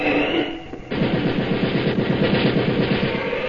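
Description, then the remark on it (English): A whooshing tone gives way to a sudden, loud burst of machine gun fire from a German firing squad in a snowy yard, a rapid, steady rattle of shots that keeps going without pause. No one speaks. “Swooping down from the sky, Superman snatches Jimmy and Poco to safety even as the Nazi guns roar.”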